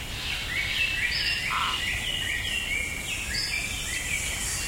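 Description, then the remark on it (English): Dense daytime tropical rainforest ambience with overlapping bird calls and chirps layered above a steady insect hum, continuous and moderately loud throughout, with no voices. “Imagine a tropical rainforest.”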